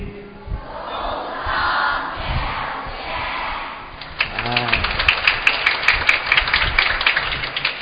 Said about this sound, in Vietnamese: Niềm vui hân hoan được thể hiện trên lời chào và tràng pháo tay ha.